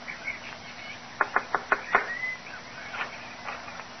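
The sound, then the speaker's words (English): Five quick, evenly spaced knocks on the wooden front door of a shack at the Moon Chicken Farm near Crowborough, sharp, with faint bird and chicken-like calls scattered softly in the background. “The gate was open, and seeing no one about, he made his way up to the front door of the shack and knocked.”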